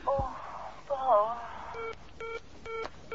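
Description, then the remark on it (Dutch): A voice speaks briefly, then a telephone line tone takes over: four short, evenly spaced beeps, moderately loud and slightly thin, as if the call has just been cut off. “Ik weet niet. Ik ben daar afgebroken.”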